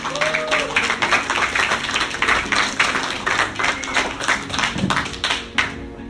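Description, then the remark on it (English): A comedy-show audience breaks into steady, enthusiastic applause for a comedian, many hands clapping densely and continuously for several seconds, with a faint whistle or cheer near the start. “Let's get a big round of applause going”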